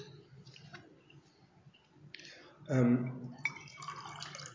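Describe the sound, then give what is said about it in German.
Water is poured into a glass, a brief gurgling splash lasting about a second with a rising tone as it fills, amid low room noise and faint background voices. “Darf ich Wasser haben, bitte?”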